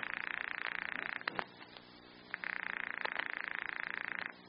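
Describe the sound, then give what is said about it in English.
A telephone ringing on the other end of the line, a call to an apartment's phone number: two long, buzzy, tinny rings separated by a short pause, with no one speaking. “And they're ringing.”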